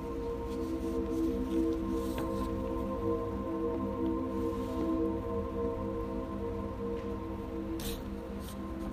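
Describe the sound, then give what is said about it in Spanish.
A steady, unbroken wash of sea waves with a soft hissing texture, layered under sustained low droning tones; no one speaks. “luego vamos a dejar que la vibración del sonido de la música del mar entre en ese espacio interno, lo abra, lo expanda y lo limpie.”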